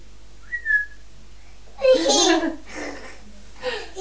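A person whistles to a child, one brief rising note and a faint second chirp. Then comes louder giggling and a child's vocal sounds, with more near the end.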